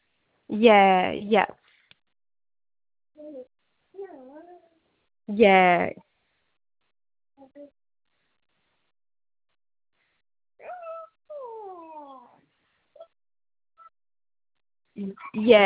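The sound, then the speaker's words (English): A female pet dog whines and vocalizes in short bursts, with rising and falling whimpers separated by a few sharper, louder yelps, with no one talking. “'Cause I mean my thing that sorry, I'm just sorting my dog.”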